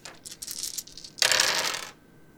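Dice, including three positive dice, rattle and clatter across a hard tabletop as they are rolled in a tabletop game: a run of quick light clicks, then a louder burst of tumbling that settles after about two seconds. Fairly loud, no voices.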